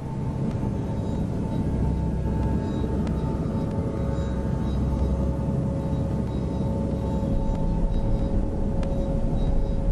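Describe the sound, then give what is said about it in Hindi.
A car engine drones steadily throughout as the car is turned around, a dense low rumble with a faint whining tone on top, fairly loud with no breaks or voices. “मैं फिर गाड़ी मोड़ती हूँ, उसकी तरफ जा रही हूँ।”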